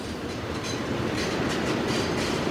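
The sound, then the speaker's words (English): A freight train with Tamoil oil tanker cars rumbles steadily past, a continuous loud roar of rolling cars with faint rhythmic clatter from the wheels, no voices heard. “That sounds like another freight train.”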